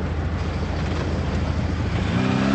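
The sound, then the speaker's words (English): A heavy engine rumbles loudly and steadily, its droning tone rising and growing a little louder toward the end as the truck approaches, with no voices. “Hey, look out for that truck.”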